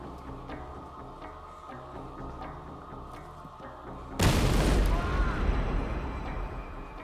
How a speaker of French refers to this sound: L'explosion le blessa gravement.